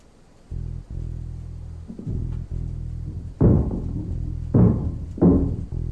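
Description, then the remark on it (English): Three heavy, booming knocks on a door, spaced unevenly over the last few seconds, ringing out above a steady low hum that runs through the whole clip. “Someone's at the door.”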